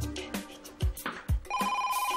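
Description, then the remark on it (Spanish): A telephone rings with a bright, warbling electronic tone that pulses rapidly and steadily, preceded by a couple of dull thumps and clatter. No one speaks. “Mamá, ve a coger el teléfono.”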